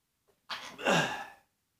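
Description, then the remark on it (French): A single sneeze during a live broadcast: a short breathy intake swells into a louder, voiced burst that trails off after about a second, with silence on either side. “Je vous éternue une fois de temps en temps, en direct.”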